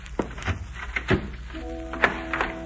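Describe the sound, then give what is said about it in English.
A door being locked: several dull thunks and metallic clunks spaced unevenly over a few seconds, with a faint steady humming tone coming in about halfway through. “Sorry, but I'll have to lock your door.”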